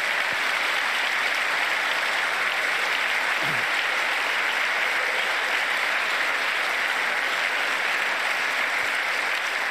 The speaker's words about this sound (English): I mean, at least he's clapping mildly, very, very mildly, with no enthusiasm. I guess he's clapping for the idea of ending cancer.